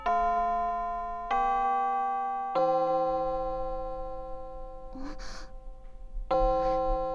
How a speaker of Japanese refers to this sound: 偶然でしょうか、今のは授業の終わりの合図のチャイムでございますよね。はい、かしこまりました。1時間目はこれでおしまい。